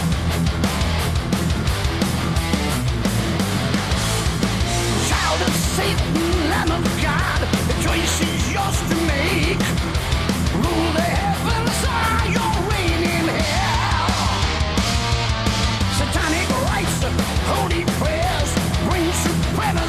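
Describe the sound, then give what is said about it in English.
A heavy metal song plays loud and dense throughout, with a high, strained vocal scream opening the album's title track, riding over pounding drums and distorted guitars at a steady driving pace. “The scream at the beginning of this song is absolutely insane.”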